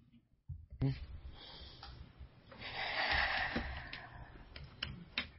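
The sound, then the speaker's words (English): Heavy breathing: loud, rough, airy breaths that swell into a long, drawn-out exhale midway before trailing off, with a few faint clicks scattered through. “Was that heavy breathing?”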